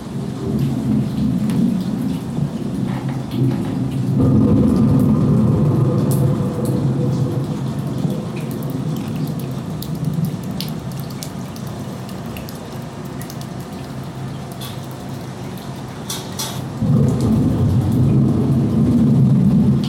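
A simulated rainstorm with real water falling into buckets hisses steadily throughout, while deep, rolling thunder swells in twice, around five seconds and again near the end, loud and rumbling beneath the rain. No one speaks.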